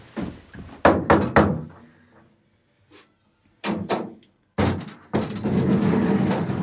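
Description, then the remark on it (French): An apartment door on the fourth floor of a 15th-century white-stone building in the Marais, Paris opens: a few sharp wooden thuds, a quiet pause, then the clunk and rattle of the latch and handle, and the door swings open onto a noisier space. “Un bel immeuble en pierre blanche qui date du 15e siècle, une grande porte bleue, c'est au 4e étage.”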